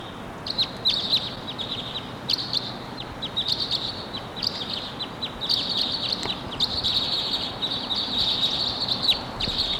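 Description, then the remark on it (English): A wild crossbill calls repeatedly, with sharp, high chip notes in bursts and short trills over a steady background hiss; two male crossbills are present. No one speaks. “Wild Cross Bill coming in at 7:03.”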